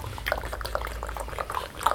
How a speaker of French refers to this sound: Le village est dessous, avec le torrent. On entend le torrent.